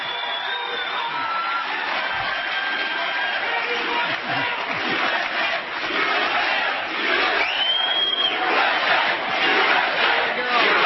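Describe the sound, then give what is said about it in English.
A large crowd of protesters screams and shouts continuously, some people screaming "war criminal", a dense, loud wall of overlapping voices with individual yells and whoops rising out of the roar throughout. “In the middle of that, there are people screaming war criminal.”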